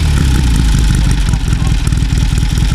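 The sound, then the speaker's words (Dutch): A motorcycle engine is started and idles, its loud, lumpy low rumble pulsing in a steady rapid rhythm with no pauses throughout. “Kun je nog even de motor starten voor het geluid?”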